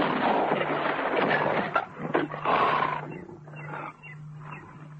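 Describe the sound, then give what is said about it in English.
A lion gives a loud, snarling roar as it leaps, a rough guttural growl surging in several bursts over about five seconds with no talking. “He raised his rifle, and at that moment, the lion jumped.”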